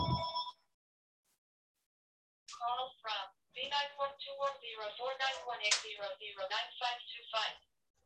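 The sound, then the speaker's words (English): A landline telephone rings in a short burst, then rings again in a longer, warbling stretch of several seconds. The ringing is clear, separated by a brief silence. “I forgot to disconnect our phone.”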